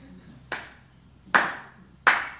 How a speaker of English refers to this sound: Clap in the hands three times.